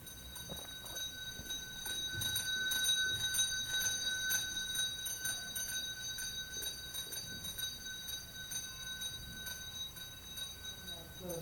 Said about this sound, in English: It's not it, right? But it's close to the one in the hospital. Yes, this is not it. This is one that I got from a bell maker. That's heavy. It is. Wasn't that heavy?